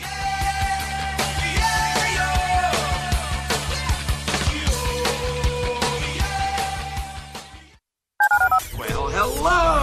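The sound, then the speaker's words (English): Telephone keypad tones beep in a quick, steady run of many short presses as a phone number is dialed to call a listener line, fairly loud, followed by a brief pause and a final burst of sound. “To call into the HR&P listener line, dial 713-780-ESPN. Dial the phone.”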